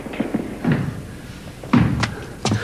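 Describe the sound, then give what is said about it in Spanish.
Heavy thudding footsteps climb a staircase, a few uneven steps with short pauses between them, moderately loud, with no voices. “Oyen pasos en la escalera.”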